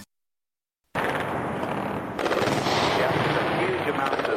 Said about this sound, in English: Fire getting much, much closer. All the air defences are opening up all around me at the moment. All around me. To the west, there are surface-to-air missiles arcing upwards.